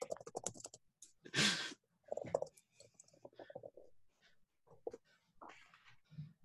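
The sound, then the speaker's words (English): Typing on a computer keyboard, irregular bursts of key clicks with brief pauses between them, one louder clatter early on. “I'm actually going to have to mute my mic so you can't hear me typing.”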